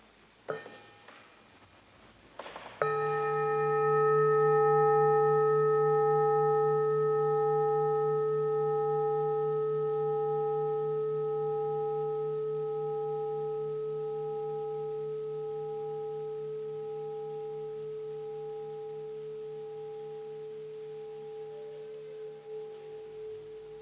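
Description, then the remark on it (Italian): A light tap, then one clear strike of a meditation bell, rung as a pause for mindful breaths. Its steady, layered tones ring on and fade very slowly over about twenty seconds, with no voices. “Suono di campana e state respiri consapevoli.”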